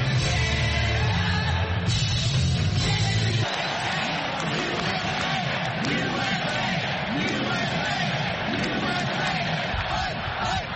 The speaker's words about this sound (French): l'ancien président a levé le poing en entrant dans l'immense salle décorée de bleu et rouge sous les acclamations des délégués qui l'ont officiellement désigné pour être leur candidat à la présidentielle du 5 novembre.